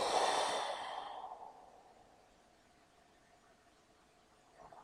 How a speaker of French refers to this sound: C'est-à-dire que tu inspires à fond, tu inspires à fond, tu inspires à fond. Et tu souffles.